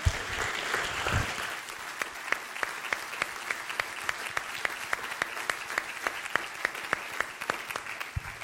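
A church audience claps to thank a speaker after his message, a dense wash of applause with sharp individual claps standing out in a steady rhythm, moderately loud and sustained for several seconds without voices.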